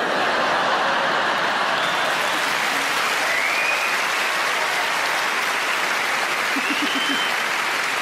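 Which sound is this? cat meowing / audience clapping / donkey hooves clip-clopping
audience clapping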